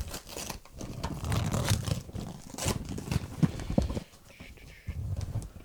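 Styrofoam packing being rummaged through: continuous crunching, rustling and squeaky scraping for several seconds, irregular and fairly loud, with a brief lull near the end before more rustling resumes.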